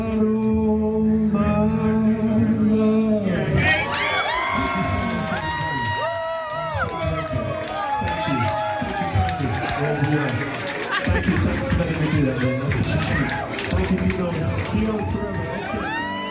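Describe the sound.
A large crowd cheers and shouts steadily at the end of a singer's surprise performance filmed for a music video, with high excited voices and whoops rising over a dense, loud wash of babble that continues throughout.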